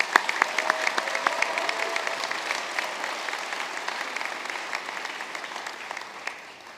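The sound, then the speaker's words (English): An audience claps for the sponsors of a meal donation for Haiti, including ADM and CSX Transportation, steadily for several seconds, a dense patter of many hands with sharp individual claps standing out, gradually easing off toward the end. No one speaks over it. “Let's hear it for our sponsors.”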